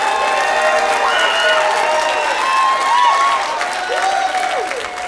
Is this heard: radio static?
no